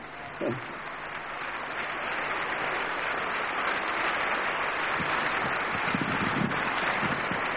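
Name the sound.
audience applauding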